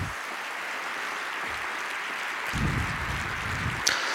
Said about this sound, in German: Wir bitten um einen großen Applaus für Maya Göpel.